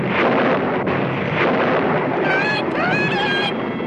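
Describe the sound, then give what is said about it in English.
Loud, continuous thunder rolls and crackles through the whole stretch, a dense storm roar, with a high wavering whine rising over it toward the end. “Yes, isn't this some storm? I hope it doesn't wake the baby.”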